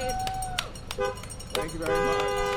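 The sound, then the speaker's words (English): A school bus carrying Sun Valley teachers pulls into a cul-de-sac around 10 a.m. to deliver a student's diploma, its horn honking in sustained, loud blasts, while people cheer and shout in the background. “waiting for a school bus one last time. When it pulled into his cul-de-sac around 10 a.m., Sun Valley teachers piled out to present”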